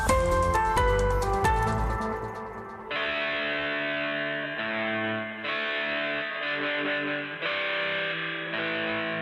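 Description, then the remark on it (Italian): Harsh electronic dial-up modem screeching: a burst of dense warbling tones, then steady buzzy chords that jump in pitch every second or so, loud with no voices. “Modem.”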